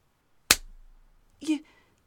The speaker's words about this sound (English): You slapped me? Damn. It stings.